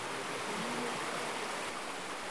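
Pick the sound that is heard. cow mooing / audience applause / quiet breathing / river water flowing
river water flowing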